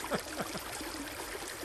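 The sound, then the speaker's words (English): A small stream trickles steadily, with bubbly little gurgles and splashes over a constant wash of running water, no voices present. “And we like it small as well. Yeah, a little piddle of a stream.”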